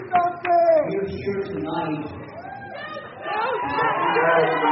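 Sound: crowd chanting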